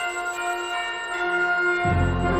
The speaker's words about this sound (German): Doch dann läuten die Weihnachtsglocken.